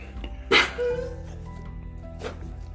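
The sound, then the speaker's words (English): Dogs whimper at their owner, who is going to the bathroom: a sharp yelp followed by a thin, drawn-out whine, then a quieter second yip a moment later, over a low steady background hum. “My doggies are just telling me, they're like, what you doing?”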